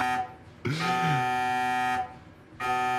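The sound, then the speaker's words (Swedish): A loud, harsh alarm buzzer blares in two long bursts with a brief gap between, a droning, siren-like tone full of harmonics; no one speaks. “Nu går det nog larm. Ja, det är verkligen flyglarm.”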